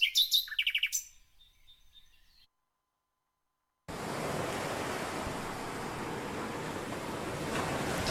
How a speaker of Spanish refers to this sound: Hem vist que hi havia el so d'uns ocells, ara tenim les onades del mar, estan molt ben enregistrats aquests sons, o sigui que cadascú es pot relaxar amb el que vulgui.